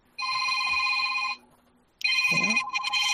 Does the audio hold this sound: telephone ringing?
yes